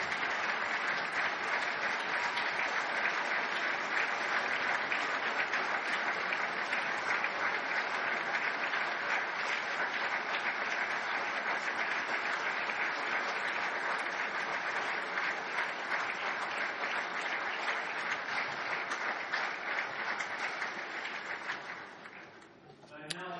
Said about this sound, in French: Kurt Pritz peut se lever pour que nous puissions l'applaudir. Merci Kurt.